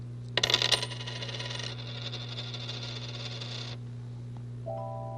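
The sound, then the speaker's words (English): Four coins (a quarter, a dime, a nickel and a penny) are set down and clatter onto a hard tabletop, a quick burst of bright metallic clinks followed by a lingering ringing shimmer that slowly fades, clear with no one speaking. “They're coins. The big one is a quarter. And this little one is a dime. And this one's a nickel.”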